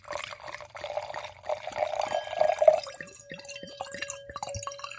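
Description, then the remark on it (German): White wine glugs and splashes into a glass, a bright gurgling pour whose pitch rises as the glass fills, ending in a few small drips. No one speaks. “Was soll ich mir denn eigentlich jetzt schon mal ins Glas schütten? Ich würde sagen, wir fangen an mit dem Weißen.”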